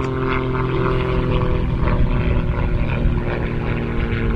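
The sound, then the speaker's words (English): A small twin-engine propeller plane flies over a baseball game on a fine day, its engines giving a constant, fairly loud hum with a buzzing tonal edge that holds without fading throughout. “Got a fly over here from someone. Saying, hey, it's a beautiful day to be up and about. Little twin engine.”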